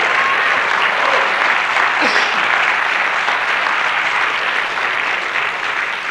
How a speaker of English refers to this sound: Come on, give him a hand of praise. I'll wait.